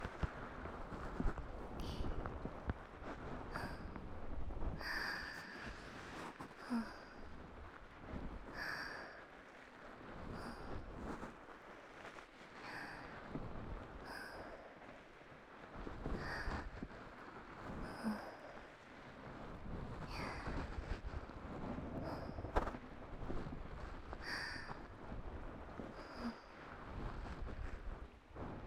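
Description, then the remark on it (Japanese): Steady rain pours down, a dense continuous hiss broken by frequent sharper splats and drips at irregular intervals, with no voices. “本当にいい雨の音。”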